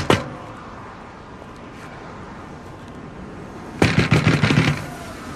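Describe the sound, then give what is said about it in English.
Someone bangs on a door at a spa, trying to get back in: one sharp knock at the start, then after a pause a quick, loud flurry of about six heavy pounding blows, all over a steady low background noise. “They're banging on the door at the spa to get back in after the fact.”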